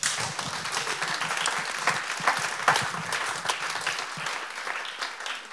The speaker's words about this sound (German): Das konnte ich mir nicht nehmen lassen. Ich wollte auch einfach mal Applaus einfordern.